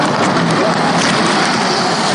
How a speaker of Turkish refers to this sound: Yeni bir araba geliyor. Ama biz onu dinlemeyeceğiz.